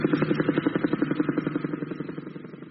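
A helicopter's rotor thuds in a fast, steady chopping rhythm over an engine drone, fairly loud, easing off slightly toward the end.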